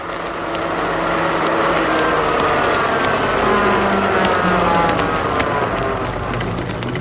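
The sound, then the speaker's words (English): A car arriving on a Wednesday night to take people to a party rumbles loudly and steadily, a broad noisy drone with a low humming undertone that holds at an even level throughout without fading. “Wednesday night came, and so did the car that Drago and his new friend Jimmy were expecting, the car to take them to a party.”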